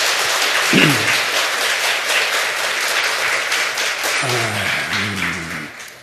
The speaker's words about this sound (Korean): 네, 우리 중고등부도 손들었어. 아주 훌륭해. 박수 한번 쳐줍시다.